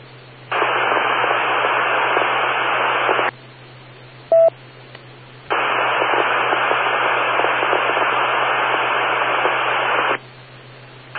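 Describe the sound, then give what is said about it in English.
Two long bursts of harsh, hissing radio static from an open channel after a call from station WS2N, with nothing heard but static, separated by a brief quiet gap with a short electronic beep, all over a steady low hum. “Nothing heard except static. I did hear static.”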